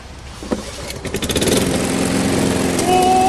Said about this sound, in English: A well-oiled roar spells success for the gritty street gang. But by the sounds of it, the engine's spinning far too fast.